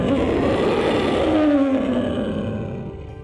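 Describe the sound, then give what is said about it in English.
A loud, growling dragon roar with a deep rumbling texture and a tone that slides downward, held for about three seconds before slowly fading. No voices are heard. “What is big with scales has wings and a long tail. A dragon!”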